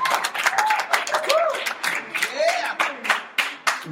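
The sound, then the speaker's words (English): A group of people at a worship gathering applauds to welcome first-time visitors, with a dense, steady patter of hand claps that lasts throughout. Voices call out over the clapping, fairly loud. “Hey, give me a hand clap.”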